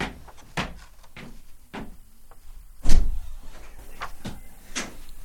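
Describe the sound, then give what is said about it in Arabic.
A door is opened with a series of sharp clicks and knocks, like a latch and bolt being worked, ending in a louder thump, with no voices. “افتح الباب.”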